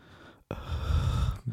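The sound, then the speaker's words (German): A single heavy, close-miked breath through the mouth, a loud airy rush lasting about a second after a brief pause, as someone imitates noisy mouth breathing. “Er atmet einfach durch den Mund.”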